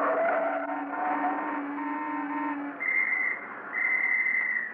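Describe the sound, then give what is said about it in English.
A police officer directing street traffic blows two long, shrill blasts on a police whistle at a driver, loud, after a low humming drone that fades away beneath them. “Were you whistling at me, officer?”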